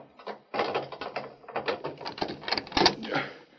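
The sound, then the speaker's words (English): A door is unlocked and opened: a rapid series of metallic clicks and rattles as the lock turns, then a louder clunk as the door swings open. No voices. “I wasn't going to open the door until I was pretty sure who it was.”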